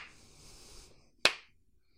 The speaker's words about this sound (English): and I had to give him this little clap. Yeah, and I just went like this.